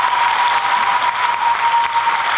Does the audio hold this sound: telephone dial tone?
no